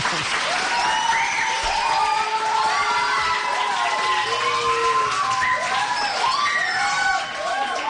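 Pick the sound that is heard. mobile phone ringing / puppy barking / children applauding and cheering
children applauding and cheering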